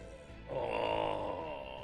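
burp

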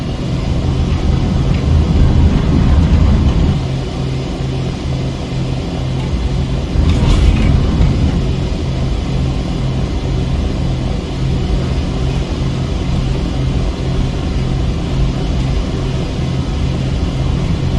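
light airplane engine

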